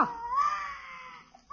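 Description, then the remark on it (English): A baby boy, one of the twins at the Great Gildersleeve's house, cries in one long, wavering wail that rises, holds and slowly fades, with the start of another cry breaking in at the very end. No one speaks over it. “It must be the boy. Sounds like a baritone. You hope he doesn't wake up the little girl.”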